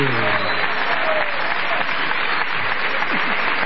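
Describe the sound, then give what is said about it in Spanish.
Sustained applause and a standing ovation from an audience fill the whole stretch, a dense, steady wash of clapping with some faint voices mixed in underneath. “Y si puede ser ovación de pie, mejor.”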